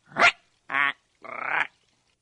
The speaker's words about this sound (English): If you spook him, he'll fly away and probably make this sound. Or this. Or this. These calls are easy to imitate. Try it for yourself. Once you've heard a great blue heron, it's easy to see why some people call him the big blue cranky.